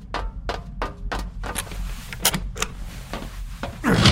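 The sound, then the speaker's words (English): A rapid series of crisp mechanical clicks as codes are punched into a keypad, followed by a heavier clunk and rushing noise as a lever on the right is pulled to secure a nuke, with no talking. “You must insert those codes and pull the lever to your right to secure what you choose where the nuke will be.”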